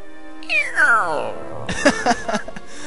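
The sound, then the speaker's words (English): A voice imitates a long, creaky fart like a door slowly swinging open, a strained tone sliding downward in pitch, followed by a few short choppy vocal bursts. “She farted. It sounded like a creaky door opening. It's like...”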